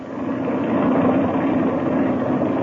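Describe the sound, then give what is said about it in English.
A steady, droning airplane engine idles and warms up with the throttle cracked open a little, a continuous low rumble with a broad hum that holds loud and even throughout, with no voices over it. “While the engine's warming up, I want to give you some instructions.”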